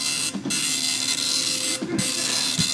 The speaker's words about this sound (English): Is that a bubble dot printer?